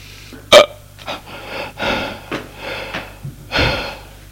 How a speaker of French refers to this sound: Il boit très difficilement. Avec des hoquets.